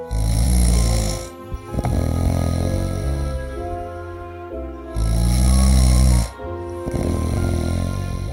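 snoring

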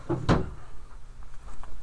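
drawer being opened

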